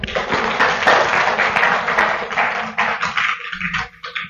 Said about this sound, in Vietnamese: Đạo tràng hãy cho một tràng pháo tay để cùng đón.